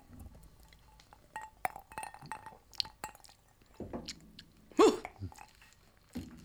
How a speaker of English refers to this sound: this looks quite delicious, delightful, spectacular. I'm going to have a sip.